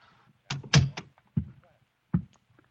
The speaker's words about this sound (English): I got to apartment 1B. I knocked. Then I tried the door. It was open, and I walked in.